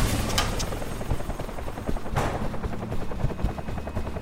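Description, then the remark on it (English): A helicopter's rotor thumps steadily and loudly, with a dense mechanical roar filling the background and occasional sharp cracks cutting through, like gunfire. “help me dump this equipment and make room in the chopper.”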